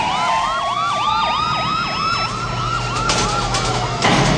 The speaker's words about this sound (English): Lights flashing, police cars surround the construction site.